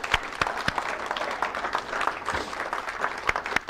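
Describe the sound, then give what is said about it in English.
A convention crowd applauds steadily in recognition of the reps, volunteers, committee members and board members. The clapping is a dense wash of many hands at a fairly even level, with a few sharper individual claps standing out throughout. “I don't think they often get a round of applause. Could we give them a little recognition?”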